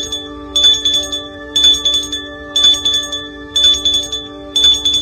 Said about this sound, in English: ringing the bells with no response.